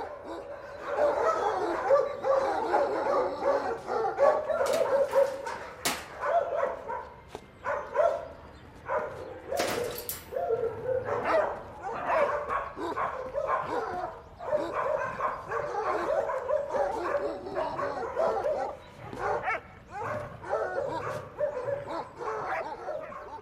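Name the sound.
dog barking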